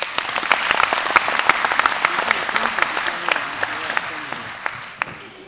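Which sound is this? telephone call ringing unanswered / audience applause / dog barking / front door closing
audience applause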